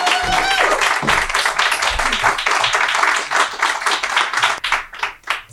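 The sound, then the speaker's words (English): An audience applauds steadily as the second set of storytellers is welcomed to the stage, the dense clapping holding loud for several seconds before thinning and fading toward the end, with a brief high whistle near the start. “Real legit round of applause for”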